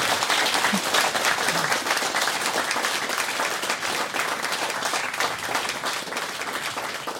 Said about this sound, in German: Applaus für den Dörbladen.